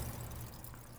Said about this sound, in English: And what do we hear? You'll hear carbon dioxide bubbles being cleaved off the malic acid and being released into the air. So it sounds almost like Rice Krispies.